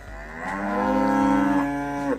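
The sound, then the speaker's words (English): A single long, sustained moo from a longhorn cow, loud, with a rich harmonic drone that rises and holds for about two seconds before cutting off. No talking. “They were longhorn cattle.”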